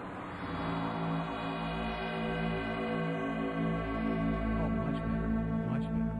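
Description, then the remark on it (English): A dense electronic hum swells and holds as a diner's inertial dampening fields, which also act as a sound barrier, are switched on. Layered harmonic tones drone steadily like a sci-fi force field powering up, with a faint wavering shimmer on top and no voices. “Let me operate the diner's inertial dampening fields, which will also act as a sound barrier.”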